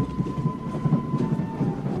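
A steady low rumble of a train carriage rolling along the rails, with rhythmic rattling and a faint thin whine running through it, no voices present.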